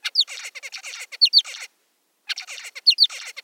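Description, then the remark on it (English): Male zebra finch song: two bright bursts of rapid buzzy chirps and squeaky high notes, each lasting over a second with a short silent gap between, and no voices present. “The researchers recorded the finches singing after their break from practicing and compared those songs to ones recorded before the experiment.”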